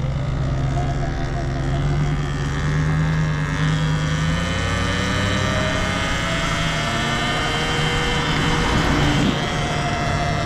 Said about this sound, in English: We got a big truck coming right at us. I think it's a heavy fire truck.